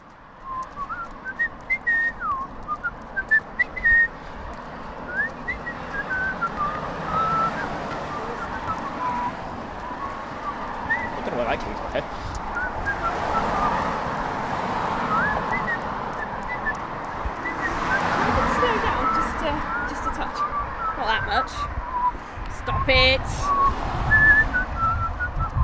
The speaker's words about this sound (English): like I slowed down my whistling so they would know.